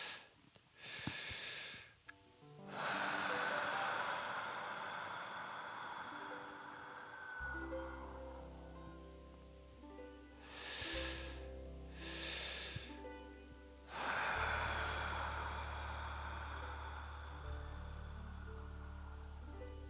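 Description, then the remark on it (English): Slow, deep breaths drawn in and let out several times, airy, with a soft sustained musical drone humming underneath. No one speaks. “Breathing in a little deeper with each breath, opening your heart a little bit more, allowing the light, the breath into your body.”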